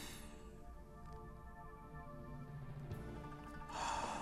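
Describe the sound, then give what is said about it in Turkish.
A long, slow, deep breath of about four seconds, drawn in through the nose and let out through the mouth as a diaphragm breathing exercise, steady, with soft background music running underneath. “Bu derin nefes alışverişinde yaklaşık 4 saniyelik o nefesinizin diyaframınızı çalıştırarak, mesela hatta lütfen ellerinizi de mideniz boşluğunun o alt kısmına koyun.”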